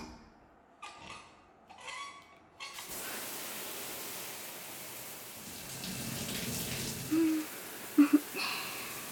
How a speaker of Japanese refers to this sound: 湯加減も大丈夫そう。まずはシャワーで背中を濡らしていきますね。熱くないですか？はい。では湯加減はこのままで。